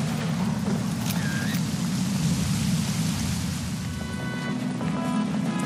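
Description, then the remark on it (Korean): Steady, dense rainfall at night, in a film's opening scene, hisses without a break, a broad wash of noise with a heavy low rumble underneath. No voices are heard. “영화는 비오는 밤 심상치 않은 망치질 소리와 그것을 지켜보는 한 사람의 시선을 보여주면서 시작합니다.”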